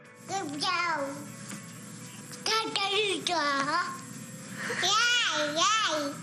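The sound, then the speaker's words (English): A baby babbles in high, sing-song coos and gurgles, several short bursts with brief pauses between them, fairly clear over a faint background hum. “Turns out there's a lot to be learned from the goo goo gaga sounds of a baby.”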